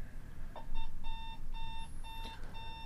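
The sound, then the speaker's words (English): An alarm clock rings with a steady run of bright electronic beeps in short, evenly spaced bursts, fairly loud over a low background rumble. “Your alarm goes off.”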